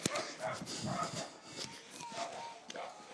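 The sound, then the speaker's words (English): A small cocker spaniel yips and whimpers in a string of short, high-pitched cries, fairly quiet, over a steady background hiss. “And he's a nice little dog. But if we go any closer, we're going to have barking.”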